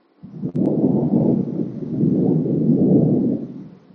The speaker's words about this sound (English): And over here, overhead of our sangha, there was just a thunderclap.